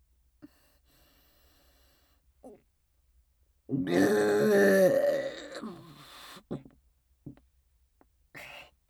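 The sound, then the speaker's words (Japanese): A single long, loud burp, drawn out and croaking for a couple of seconds, with a few faint short throat noises before and after in otherwise quiet surroundings. “苦しそうにゲプゲプしてたの見て”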